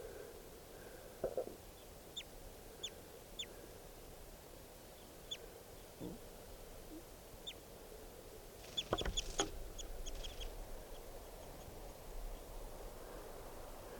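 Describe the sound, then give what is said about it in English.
Wild birds call outdoors around a net with one bird caught in it, with sharp, high chirps scattered irregularly over a steady background hiss, plus a brief louder burst of calls near the middle and a few lower clucking notes. “So recording, there's some other birds here, including, lots of two birds, and there's one in the net, and here's the other one.”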